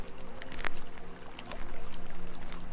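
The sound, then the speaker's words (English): Water of a brook runs steadily over rocks, a continuous gurgling flow with small bright splashes and trickles popping up now and then, with a low steady hum beneath and no voices. “Let the tired and heated energy go and flow down the brook.”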